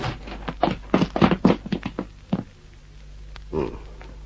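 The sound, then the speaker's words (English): A ground-floor door to a theatrical agent's office is flung open in a hurry: a quick cluster of loud thumps and rattles, then a short pause and one more muffled knock. “open the door with a rush.”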